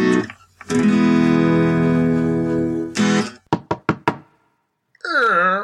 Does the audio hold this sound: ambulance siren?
no